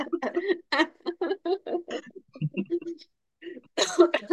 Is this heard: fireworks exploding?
no